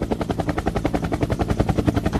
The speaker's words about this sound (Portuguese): Olha, o helicóptero agora tá sobre Jaguaribe, Cristo, Vajão. Mas tá. Toda aquela região, né?